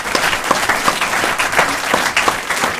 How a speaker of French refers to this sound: Allez, on vous applaudit tous les deux